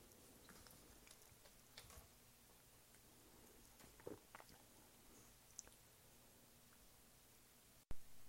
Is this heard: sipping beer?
yes